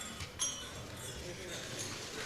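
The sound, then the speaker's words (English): A quick, bright clink of glasses during a toast to the health of Vice President and Mrs. Biden and Secretary Clinton and to the friendship between the Chinese and American peoples rings out near the start, with another faint chime later, over a steady murmur of background noise and indistinct voices. “Now, I would like to propose a toast to the health of Vice President and Mrs.”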